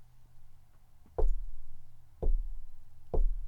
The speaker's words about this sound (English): What's that knocking? Do you hear it?